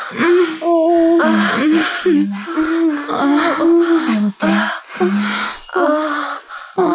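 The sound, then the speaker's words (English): Several women gasp and sigh in quick succession, breathy voiced sounds overlapping one another, fairly loud, with no clear words spoken. “The other elf girls around me gasp”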